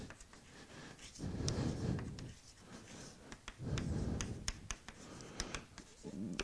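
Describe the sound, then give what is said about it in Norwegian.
A pen or chalk scratches across a writing surface in bursts, with low rubbing strokes and sharp little ticks and taps between them, at a quiet, steady level with no talking. “så det sånn at sentralisering, jeg skriver litt kort, hører sammen med standardisering.”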